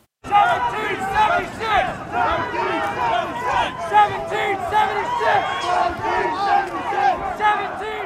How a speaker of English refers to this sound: And we just see this huge crush of people coming down Pennsylvania Avenue toward the Capitol, a big contingent of the Proud Boys, violent far-right gang, is sort of in the lead as a frontline force. They start rallying the crowd, chanting 1776.